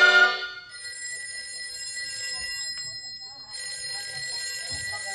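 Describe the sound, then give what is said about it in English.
A telephone bell rings in two long, shimmering bursts separated by a short pause, clear, with faint background rumble beneath. “Shove that phone over, will you, partner?”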